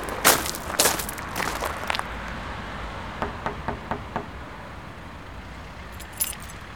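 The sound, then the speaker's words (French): A quick series of about five firm knocks on the door of a house, evenly paced, with bursts of metallic jangling, like keys, just before and after. No one answers. “Je frappe, personne ne répond.”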